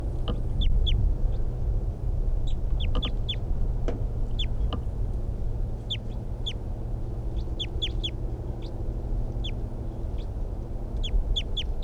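wild bird calling

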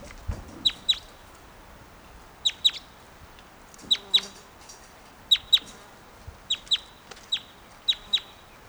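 birds clucking

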